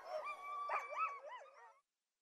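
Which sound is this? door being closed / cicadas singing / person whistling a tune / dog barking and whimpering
dog barking and whimpering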